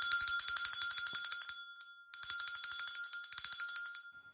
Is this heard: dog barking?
no